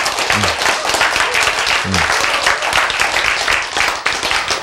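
A crowd applauds steadily, many hands clapping in a dense, continuous patter that stays loud throughout, with a couple of brief low vocal murmurs underneath.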